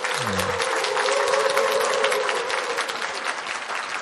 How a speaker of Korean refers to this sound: 우리 박수 한번 다시 쳐주십시오. 아도나이 성가대를 훌륭하게 이끌어주시는 강석희 지휘자님께 박수 한번 쳐주십시오.